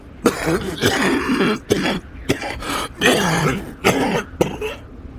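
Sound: man coughing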